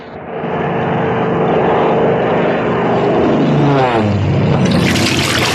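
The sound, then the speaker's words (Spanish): A steady, loud propeller-engine drone of a heavy seaplane coming down near the islet of Spiros, its pitch sliding lower, then a burst of rushing water spray at the end as its pontoons touch the surface. “El hidroavión va a acuatizar muy pronto.”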